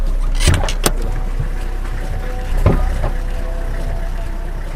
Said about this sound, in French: La voiture s'arrête devant un petit portail gris quelconque.